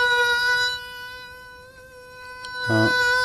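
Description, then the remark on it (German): A voice imitates a mosquito with a steady, thin, high-pitched whining buzz held for about three seconds, wavering slightly in pitch before a brief louder flutter near the end. “Mücken sind unglaublich nervige Flieger. Wenn die dir in der Nacht”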